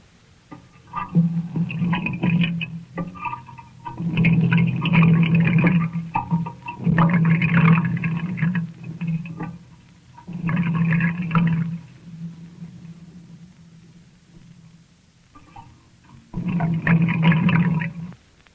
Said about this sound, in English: The way we made that one was to run some water through a piece of ordinary pipe and let the sound microscope listen to it.